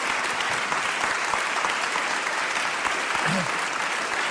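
An audience in Granollers claps steadily and loudly throughout for a guest, a dense, continuous wash of applause with no pauses, and a brief faint voice rises under it near the end.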